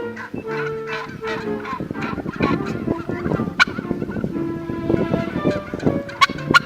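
Turkeys gobble in a dense, continuous chorus, several birds overlapping in rapid warbling bursts with a few sharper calls poking through near the end. Nobody speaks.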